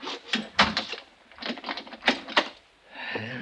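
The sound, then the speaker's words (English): A door is pushed shut with a solid clunk, then a lock is worked: a quick series of sharp metallic clicks and rattles in two bursts, fairly loud, with no one speaking. “You better close that door and lock it”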